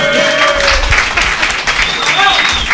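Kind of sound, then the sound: crowd, applause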